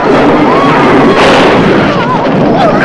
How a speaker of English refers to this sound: She points her staff at the soldiers who tumble downstairs with purple lightning fizzing all over their bodies.